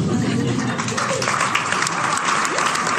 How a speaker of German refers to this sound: Ja, Applaus, Applaus.